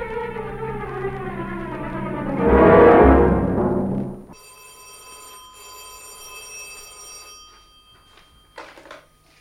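A telephone bell rings in two bright, sustained bursts with a short break between them, following a loud swelling rumble that cuts off abruptly. The ringing fades out near the end, and no one speaks.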